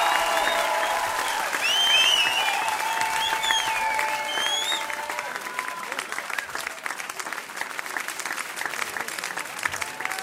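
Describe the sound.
A crowd applauds a singer at the end of a live song, steadily and loudly for about ten seconds, with shrill whistles and cheering voices rising over the clapping in the first half before it settles into dense, continuous applause.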